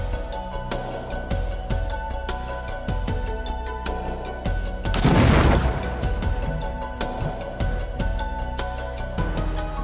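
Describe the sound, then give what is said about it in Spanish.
A burst of explosive detonations as a final prepared package is set off, with a big blast near the middle, surrounded by rapid sharp cracks and pops like a fusillade, loud with no talking. “Después de las explosiones, los estudiantes se dividen en equipos.”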